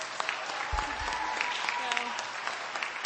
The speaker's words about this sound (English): We welcome them. Can you give them a big round of applause again?